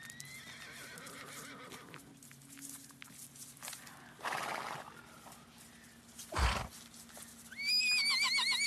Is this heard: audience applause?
no